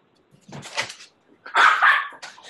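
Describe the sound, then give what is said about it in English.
A dog barks a few times: a softer bark, then a louder, harsher one and a short trailing yip, with no talking over it. “Dog's gonna start barking.”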